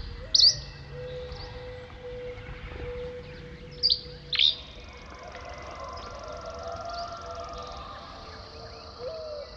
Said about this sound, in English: One final call before heading off to sleep, giving the day over to the song of birds.